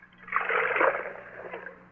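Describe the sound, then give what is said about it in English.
Water pours in a steady, splashing stream for about two seconds, moderately loud, with no voices over it. “Water?”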